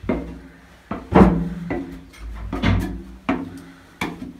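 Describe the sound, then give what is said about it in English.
Bifold doors in an underground bunker, about 20 feet underground, being opened, with a series of wooden clunks, knocks and scraping slides as the panels fold back, several bumps spread across a few seconds. “I put these doors in. Oh, wow. Oh, and they bifold?”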